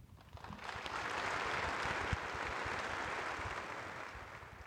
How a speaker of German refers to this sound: Der längste und herzlichste Beifall galt ihm, Otto Gottsche, dem ältesten unter den anwesenden Schriftstellern an diesem Sonntag in der Berliner Kongresshalle.